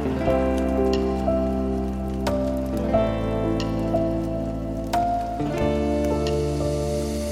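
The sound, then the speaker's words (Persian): Steady rain patters continuously under sustained, mellow musical tones, with occasional sharper drips and taps standing out against the soft background hiss; no one speaks. “یه مرگ آروم با یه تم بارون،”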